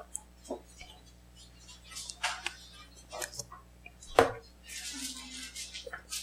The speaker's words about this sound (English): Hear those pages turning?